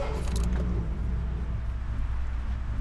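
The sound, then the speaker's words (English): A 1951 Hudson coupe, a 2-ton vintage car, has its engine turned over: it catches with a brief mechanical clatter, then settles into a steady, low rumble as it idles, with no voices. “I give a little prayer of thanks when the car turns over.”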